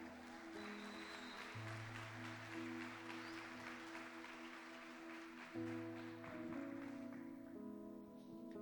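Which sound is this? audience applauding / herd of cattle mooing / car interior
audience applauding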